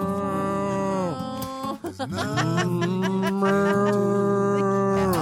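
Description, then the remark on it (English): A voice imitates a cow with long, drawn-out mooing tones, loud, briefly broken by a short wavering dip before the low moo resumes and holds steady to the end. “I'm a cow.”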